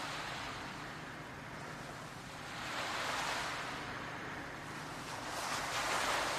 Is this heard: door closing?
no